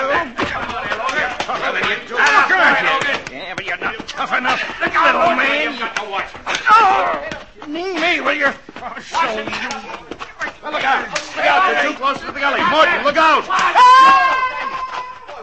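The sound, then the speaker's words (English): A fistfight between men, one an engineer, after an argument over tightening the bolts of a sluice: a frantic brawl of repeated thuds and smacking blows, mixed with shouts, grunts and yells from several voices, loud, continuing without pause for the whole stretch. “But you didn't have to fight like that?”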